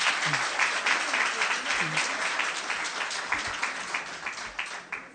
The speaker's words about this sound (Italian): Ho il piacere e l'onore di presentare a voi Sua Eminenza il Cardinale Philippe Barbarin. Un applauso.